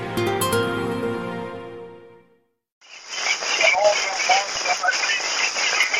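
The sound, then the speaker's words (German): A short tonal musical phrase fades into a brief silence, then an old phonograph recording of Otto von Bismarck, made at his castle on 7 October 1889 when he was the 74-year-old Reich Chancellor, starts: steady, rough hissing and crackling that wheezes and puffs like a laboring steam locomotive, with a faint voice audible within. “Es klingt wie eine schwer vor sich hinschnaufende Dampflokomotive. Doch wenn man ganz genau hinhört, ist eine ferne Stimme zu erkennen.”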